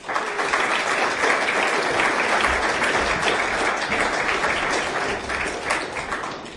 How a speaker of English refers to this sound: Ladies and gentlemen, please, huge round of applause for the Team Manila ladies team. Thank you.